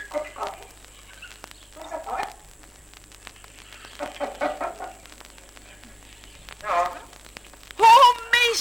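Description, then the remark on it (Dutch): A parrot makes a series of short, raspy speech-like chatters with pauses between them, ending in a loud, shrill squawk, over faint steady background hiss. “Kan die papegaai nou nog meer van die leuke woordjes zeggen?”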